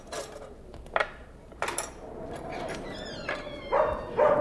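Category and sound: animal, dog barking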